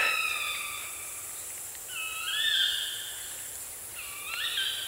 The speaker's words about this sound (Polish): To akurat puszczyki, które są właściwie nieodłącznym takim elementem tego rykowiska jeleni.